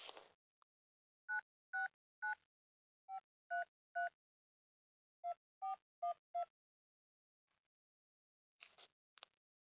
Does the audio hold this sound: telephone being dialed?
yes